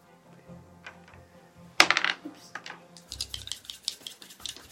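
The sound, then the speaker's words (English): Dice rolled for critical hit damage in a tabletop game hit a hard table with a sharp clack and rattle in a quick burst of small clicks, then a few lighter taps follow while voices murmur faintly in the background. “Remember to use the right dice. Roll your crit damage.”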